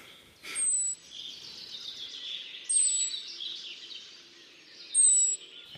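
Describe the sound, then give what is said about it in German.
A blackbird gives three thin, sharp, high-pitched alarm calls, each a brief slightly falling whistle spaced about two seconds apart, clear over faint background hiss. “Also es ist nicht immer unbedingt ein vogelfressender Greifvogel gemeint mit diesem scharfen Sie von der Amsel.”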